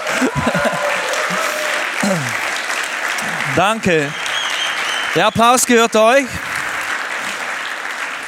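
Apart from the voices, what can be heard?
church audience applause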